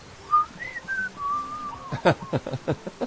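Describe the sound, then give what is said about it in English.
A short, clear whistled tune of a few sliding notes, moderately loud, as a person mimics a parrot's whistle, followed by a quick series of sharp, choppy bursts. “I'm not sure which, but he would come in, and every time the bird saw him, it would whistle the tune, you know.”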